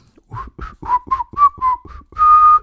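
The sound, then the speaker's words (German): A person whistles a cheerful little tune, a quick run of about eight bright notes ending on one longer held note, with no talking. “Ihr seid vollkommen gesund und frühstückt jetzt mit euren Lieben oder alleine und nehmt ein schönes Buch dazu in die Hand und ja, pfeift fröhlich ein Lied, irgendein Lied dabei.”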